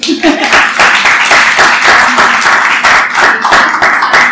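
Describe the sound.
An audience applauds steadily, a dense and fairly loud wash of many hands clapping that carries on for the whole few seconds, with some voices faintly mixed in.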